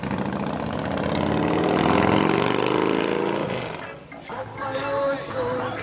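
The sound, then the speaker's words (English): A Harley motorcycle engine, being backed out of a garage early on a Saturday morning, idles with a loud, steady, throaty rumble that shifts slightly in pitch, then eases off after a few seconds into a quieter, uneven running sound. “Jahi backs his Harley out of the garage.”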